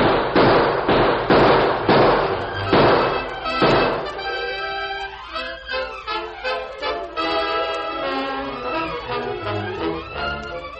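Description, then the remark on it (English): In a Lone Ranger story, a rapid volley of about seven loud, sharp gunshots is fired at a door, cracking out over roughly four seconds, then gives way to sweeping orchestral music with rising and falling tones. “Better open up or I'll cut down the door with lead.”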